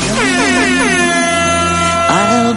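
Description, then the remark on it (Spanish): A loud, sustained air horn blares continuously for a couple of seconds, its pitch wavering slightly before a second sharp blast kicks in near the end. “Creo que hoy te toca madrugar, pues dale caña y toca esa bocina que es viernes.”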